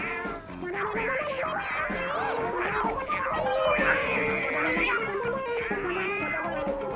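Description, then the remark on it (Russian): Several cats yowl and screech over one another in a dense, continuous racket, their wavering cries rising and falling loudly and close for the whole stretch, with no pauses. “Котов было раз в 10 больше, но ведь в рядах псов теперь сражался храбрый гасконец.”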